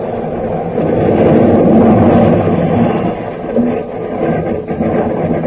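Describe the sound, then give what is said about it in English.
A train crashing: a loud, dense rumbling roar that holds steady for several seconds, with a few rougher surges and dips toward the end. No voices are heard. “From the sound of it, we stopped that train from reaching Chianzhi or anywhere else.”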